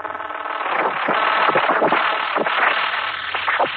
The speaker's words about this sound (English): Steve, crouched behind the cabinet, clutched his ears and closed his eyes tightly as the sound and the brightness that flooded the observatory reached its peak. After the explosion, the darkness descended again, and there was silence.